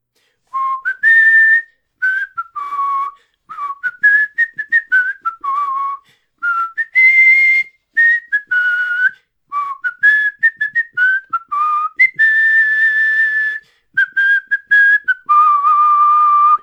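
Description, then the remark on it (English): A person whistles a lively theme song tune, with bright sustained notes and quick runs in a bouncy rhythm, broken by short breaths between phrases. No one speaks. “I can't sing it, but I can whistle it.”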